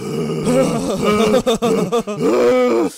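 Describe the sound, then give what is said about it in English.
A man mimics the heavy, labored breathing of very heavy people in a movie theater, with loud, voiced groaning and grunting, broken into a few rhythmic puffs in the middle, with no words spoken. “These guys, their heavy breathing sinks to the Star Wars music”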